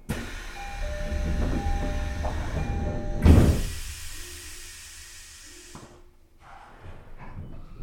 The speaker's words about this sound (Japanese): 1番線ドアが閉まります。ご注意ください。